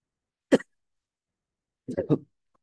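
A single short, close cough, followed about a second and a half later by a quick burst of three more coughs, then quiet.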